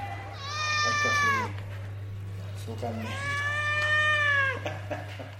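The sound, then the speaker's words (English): A stressed grey domestic cat, kept by a prisoner and taken from its cell to an office in a prison, gives two long, drawn-out, strained meows about a second apart, fairly loud, each wavering and sliding in pitch, over a steady low hum. “Blommo's a bit stressed to be away from his cell, but he soon calms down when he's fed some cat food”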